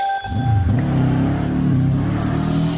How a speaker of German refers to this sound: Ja, manche Motorradfahrer mögen es ja, wenn es beim Fahren so richtig laut wird. Viele andere fühlen sich davon genervt.